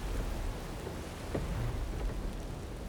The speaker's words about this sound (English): 127 miles off the east coast of Scotland, the North Sea rolls under gale-force winds. Large swells break into frothing white peaks. The driving rain almost drowns the lights of the Bibby Topaz, a diving support vessel, as it lists from side to side.